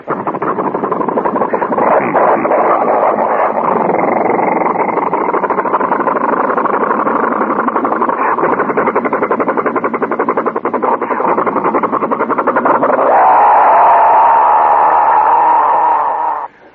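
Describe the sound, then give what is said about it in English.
A giant six-cylinder truck engine, complete with carburetors, pistons and mufflers, runs in the middle of a theatre stage, loud and steady with a rapid, throbbing pulse, then shifts into a higher, smoother hum near the end before cutting off. “The lights came up, and there in the middle of the stage was a giant six-cylinder truck engine, complete with carburetors, pistons, mufflers, and it was running, and really running.”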